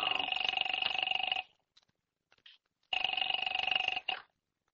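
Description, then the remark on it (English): A telephone in the hall rings in two long bursts, each a steady, buzzy double-toned trill lasting over a second, separated by a pause with faint small noises. “Where's the phone? In the hall.”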